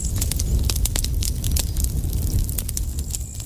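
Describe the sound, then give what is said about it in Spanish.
Campfire logs burn with a steady low roar, sharp crackles and pops snapping irregularly throughout, fairly loud, with no voices. “Quizá como respuesta a los misteriosos parpadeos de las estrellas, los amigos solemos reunirnos alrededor de unos troncos y acercarles un fósforo.”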